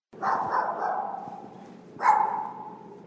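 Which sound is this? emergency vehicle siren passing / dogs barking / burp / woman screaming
dogs barking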